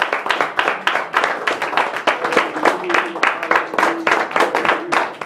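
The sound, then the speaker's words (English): A crowd claps hands in praise to the Lord, a dense, steady patter of many claps that keeps going for several seconds, with some faint voices calling out underneath. “I'll just give him one more hand clap praise for you.”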